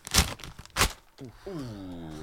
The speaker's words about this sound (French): Le temps que tu ailles le chercher, fais de l'ASMR avec le paquet cadeau, là, un peu, là, le mercredi matin, comme ça. Ah ouais, voilà, déchire.